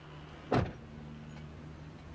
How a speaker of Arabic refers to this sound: سكري الباب.